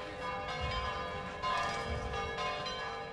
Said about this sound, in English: In Rome's historic center, the bells toll for churchgoers and devoted hoopsters.